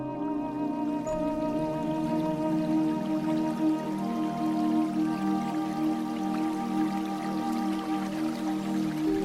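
A small forest brook trickles steadily with soft drips and burbles, a continuous water sound holding an even level throughout, with no voices present, in woods at dusk under moonlight where Lila stops to drink the fresh water.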